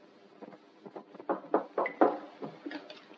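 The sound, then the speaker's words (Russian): A series of dull wooden knocks on a farmstead's wooden gate on a cold winter evening, a few soft taps at first, then several firmer raps in an uneven rhythm, with no voices. “В один из таких зимних, холодных вечеров, когда хуторянин Евсей со своим семейством сидел за столом и ужинал, вдруг кто-то постучал в ворота.”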